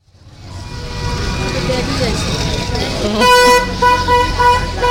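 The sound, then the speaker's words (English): Dense, chaotic traffic on a typical street in Kathmandu with many motorbikes, a steady roar of motorbike and vehicle engines, then loud, overlapping horns honking repeatedly near the end, with indistinct voices in the background. “This is a typical street in Kathmandu. There's millions of motorbikes and the traffic is just manic.”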